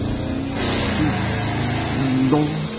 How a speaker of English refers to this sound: The young thugs piled into a car and roared away.